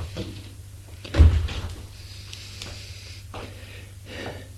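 A door is opened with a single dull thump and a short creak, followed by a few faint rustles and quiet room noise, with no one speaking.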